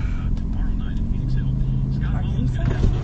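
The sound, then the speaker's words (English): A steady, loud low rumble of engine and road noise fills a moving car's interior, with people talking over the constant drone. “We're not going to get out of the car for a while.”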